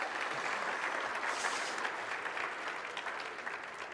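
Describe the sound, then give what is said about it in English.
A crowd applauds its host steadily, a dense wash of many hands clapping at a constant, fairly strong level for a few seconds with no voices standing out. “Please, everybody, big round of applause for our host.”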